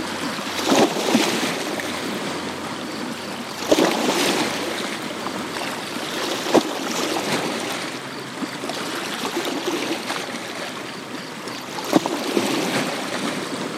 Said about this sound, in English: You are listening to Waves on the West Branch of the Penobscot River, where it enters Chesuncook Lake in Piscataquis County, Maine.